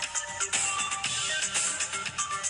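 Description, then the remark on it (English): Tinny electronic music plays through a small phone speaker held up to the microphone at Mix 100, a Denver radio station, with a steady pulsing beat, bright synth tones and very little bass. No one talks over it. “are you super impressed by how high-tech Mix 100 is with just holding our phone up to the microphone?”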